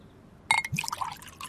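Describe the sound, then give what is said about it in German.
Water is poured into a glass in a kitchen, starting with a light clink and then a second of bubbling, gurgling splashes. No one speaks. “So, hier bitte. Das Wasser.”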